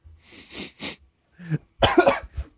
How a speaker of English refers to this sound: It's an immediate cough from both you guys.